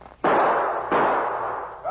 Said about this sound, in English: Pete fired two shots over the driver's head.